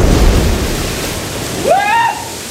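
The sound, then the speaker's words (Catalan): A heavy, roaring rush of churning water fills the whole clip, steady, with a brief rising metallic groan or whine cutting through near the end: a ship's funnel breaking and tons of steel plunging into the water, in a film scene. “A la vida real, la xemeneia que es trenca, les tonelades i tonelades d'acer que es precipiten sobre l'aigua, cauen just on hi ha en Richard i el seu pare.”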